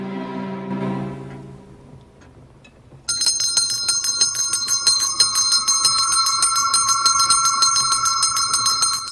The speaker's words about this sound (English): A bell above the fire suddenly rings, startling the aged Scrooge. Scrooge looks to his right, then back at the bell.